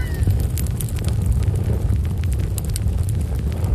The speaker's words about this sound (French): Vous avez le feu de camp aussi.